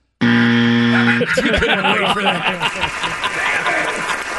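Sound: game show buzzer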